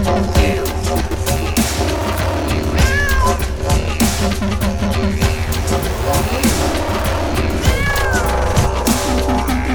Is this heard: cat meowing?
yes